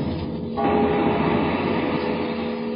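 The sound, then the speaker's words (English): A train rumbles steadily along the rails, a dense, continuous roar with a faint sustained tonal whine riding over the rolling clatter. No one speaks. “And mighty railroads linking 48 states ever closer.”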